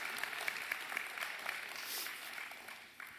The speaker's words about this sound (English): But kids, you're dismissed. Big round of applause. Would y'all please clap for the kids? Hallelujah.